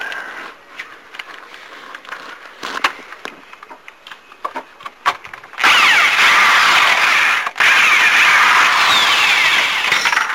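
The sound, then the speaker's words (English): Scattered creaks and clicks of wood are followed by a loud power drill whirring steadily as a screw backs out of the wood, with a brief pause before it resumes. “They're just screws. Eventually they will just come on out.”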